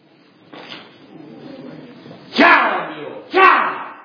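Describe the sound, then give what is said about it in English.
Two loud, sharp whip cracks snap about a second apart, each with a quick swish leading in, after a softer whoosh near the start. “If it meant cracking the whip, ooh.”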